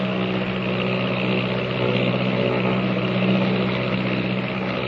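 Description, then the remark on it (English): The steady, droning engine of the airplane Silver Bird in flight, leaving Panama behind, a continuous loud hum with strong low tones and a broad roar above, holding even for the whole stretch with no talking. “Leaving Panama behind, the Silver Bird speeds on.”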